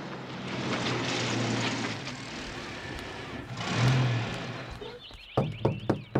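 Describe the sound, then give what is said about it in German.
Heavy engines of several trucks rumble as the trucks roll into a zoo just after the zoo gate opens, swelling briefly before dying down, followed by a few sharp clanks and thumps as they stop in front of the office. “Und kaum ist das Zootor geöffnet, da rollen einige Lastwagen in den Zoo und halten vor Herrn Tierliebs Büro.”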